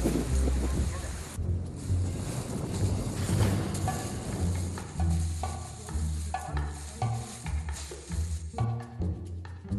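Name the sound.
strong wind outdoors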